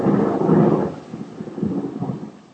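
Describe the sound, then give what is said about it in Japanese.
A deep roll of thunder swells loudly in the first second, then fades into a lower, uneven rumble that lingers to the end, with a faint hiss of rain beneath. “雷が鳴るっていうのも珍しいもんで、ちょっと実況してみたくなっちゃったものの、なんか起きないと止まらないな、さすがにそろそろ。”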